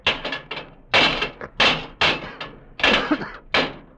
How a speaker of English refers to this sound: Those are brass doors in the base, and they're locked. The machine, it must be in there inside. We must get it. Break down the doors. How can we? Here, we'll use the levers.